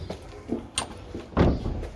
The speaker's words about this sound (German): Die Tür zum Musikinstitut öffnet sich.